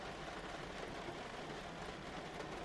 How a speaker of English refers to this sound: The sound of the car passing is a loud sigh when the rain seems to briefly up its tempo before resuming its steady rhythm.